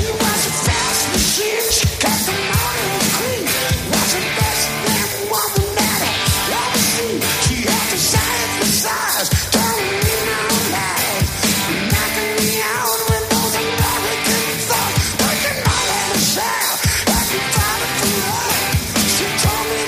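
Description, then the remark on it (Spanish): Loud, dense live hard rock by a band, recorded at a concert at the Plaza de Toros de Las Ventas in Madrid, Spain, with pounding drums and thick distorted guitars playing continuously, while the band's high, raspy singer screams the vocals over the band. “que es el cantante de …, aguanta todo un concierto pegando estos grititos con esa voz tan...”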